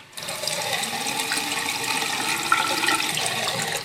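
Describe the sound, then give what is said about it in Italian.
Water gushes steadily from opened taps in a studio, a continuous hissing rush that holds at an even level for the whole few seconds, with no voices. “possiamo passare a un elemento liquido e aprire i rubinetti dello studio.”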